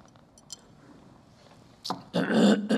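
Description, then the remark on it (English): After a quiet stretch, a sharp cough bursts out, followed by a longer, loud, rough and throaty hacking fit from someone who has just swallowed wrong. “I just swallowed wrong, I think. And now I can't talk.”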